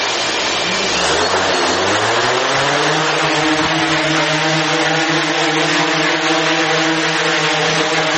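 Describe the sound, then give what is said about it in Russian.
A small civilian drone decorated in vyshyvanka embroidery style is launched indoors in an office of the company DJI; its motors whir up from low to a high, steady buzz within a couple of seconds, then hold a loud, continuous whine, with no talking. “запускає у своєму офісі дрона-вишиванку.”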